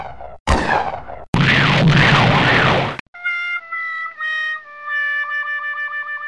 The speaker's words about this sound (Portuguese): A explosão os arremessou chamuscados a metros de distância.